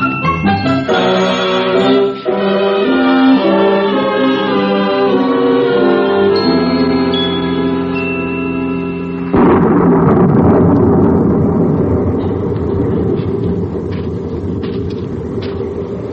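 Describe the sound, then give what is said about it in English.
Sustained orchestral music gives way about halfway through to a sudden loud crack of thunder that rolls into a long, dense rumble, slowly fading but continuing to the end. “Darn thunder.”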